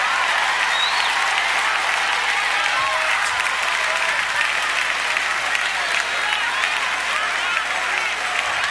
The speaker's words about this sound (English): Now clap your hands if you have strength in this place.